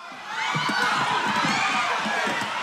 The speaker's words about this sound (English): The crowd seemed excited, cheering, though few could have known exactly what was happening.